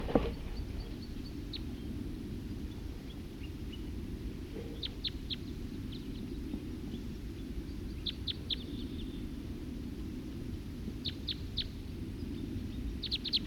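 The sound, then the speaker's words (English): Wild birdsong: short, high-pitched chirps come in quick clusters of three or four every few seconds, set against a steady low rumble of background noise. “Recording a wild bird.”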